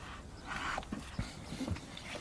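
dog

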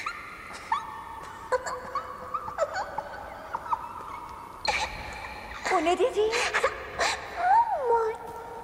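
dog whimpering

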